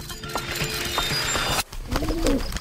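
Pigeons coo softly against a busy outdoor background hum, with a couple of low, rolling coos standing out clearly in the second half.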